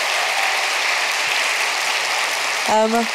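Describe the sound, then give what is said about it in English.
An audience at a Melbourne Writers Festival story reading applauds with dense, steady clapping that holds at an even volume for about three seconds, and a voice starts to speak briefly over it at the very end. “Can we have another round of applause for what a beautiful collection of stories tonight?”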